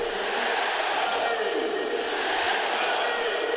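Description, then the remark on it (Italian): The crowd at the Olimpico stadium celebrates Dzeko's goal putting Roma 1-0 up against Inter in the fifth minute of the first half, with a loud, unbroken roar of massed voices that holds at a steady level for the whole few seconds, with no clear individual speech. “Un altro Recalcati che sta zitto ci permette di sentire l'audio dell'Olimpico in festa.”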